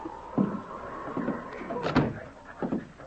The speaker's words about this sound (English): He strode through the long bar room, looking neither to the right nor left, and opened the door to Broderick's office.